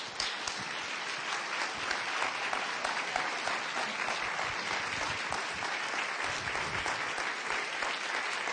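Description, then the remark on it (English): An audience at a church service applauds steadily for the visionary pastors, dense overlapping claps holding an even level for several seconds with no break, no voices standing out above the clapping. “Would you continue to clap your hand for the visionary”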